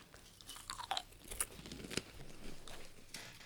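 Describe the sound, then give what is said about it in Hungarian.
Crunchy chewing right at the microphone while eating, a run of sharp crackling bites and mouth noises in an uneven rhythm, fairly loud and with no talking. “Ha van annál undorítóbb, nem, egyébként nincs annál undorítóbb, mint mikrofon előtt enni. Úgyhogy próbálja mindenki a legkevesebb csámcsogással.”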